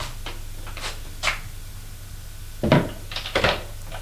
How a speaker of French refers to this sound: Arrivé au premier, il y a un petit couloir avec une porte. Ouvre la porte.